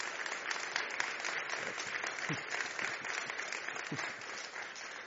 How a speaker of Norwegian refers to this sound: Så mye tid har vi ikke lagt inn til applaus her, så dette kan begynne å sprenge rammer hvis det fortsetter sånn.